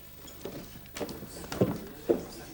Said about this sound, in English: Glumly, Mark listens to the sound of her retreating footsteps.